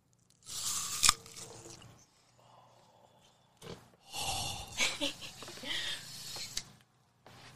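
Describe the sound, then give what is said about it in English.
Loud crunching as someone bites into an apple for apple ASMR, with a few crisp bites and bursts of chewing separated by short quiet gaps, no talking. “You got an apple? All right. Crunch it.”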